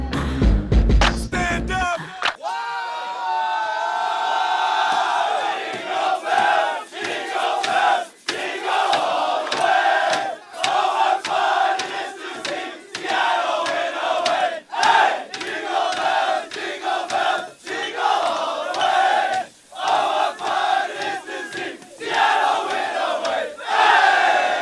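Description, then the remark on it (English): A large crowd of Seattle Sounders soccer fans sings a rowdy chant to the tune of Jingle Bells, celebrating their club's first Major League Soccer championship. Their voices are loud and sustained with rhythmic pulses, after a brief burst of noise at the start. “That's a joyous Seattle Sounders Club with their version of the holiday classic Jingle Bells, celebrating their first Major League Soccer championship.”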